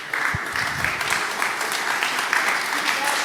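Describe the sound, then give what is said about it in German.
Sustained applause from a crowd at the close of an event at Zentralwerk, a dense wash of many hands clapping steadily at a consistent loudness throughout, without pause. “Komm, ich will, dass er aufsteht und klatscht.”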